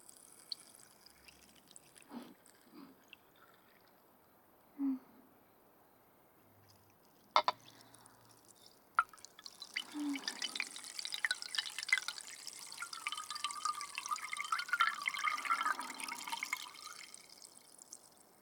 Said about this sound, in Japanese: グラスに入った炭酸水を元のガラスの瓶に戻すと、いい音でしょ。これお気に入りなんだ。炭酸の音いっぱい聞かせてあげるね。